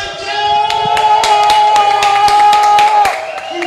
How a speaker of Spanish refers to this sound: Voy a darle un aplauso a Cristina desde aquí. Ustedes también.